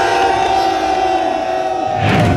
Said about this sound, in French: on est 300 à crier un petit peu notre colère